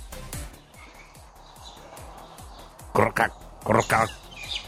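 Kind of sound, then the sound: animal, many frogs croaking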